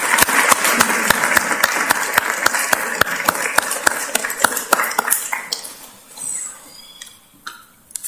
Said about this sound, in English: Please give everyone a round of applause, please.